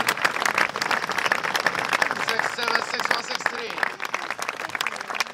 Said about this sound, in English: What we're hearing isn't the applause of victory, it's the applause of defeat. It is. Polite applause for the winner, Londero, the late replacement.